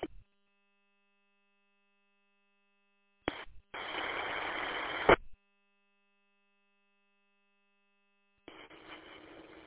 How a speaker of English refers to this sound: I need to at least learn Morse code so I can understand you.